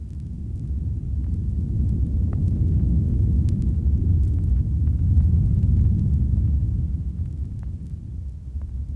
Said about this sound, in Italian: E quando al misterioso rombo del tuono e allo schianto improvviso e violento del fulmine si unisce il tremito della terra,